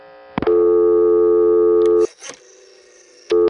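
A loud, steady telephone dial tone hums for over a second and cuts off as a digit is dialed, followed by faint mechanical clicks, then a short burst of dial tone returns as the dial comes back to rest.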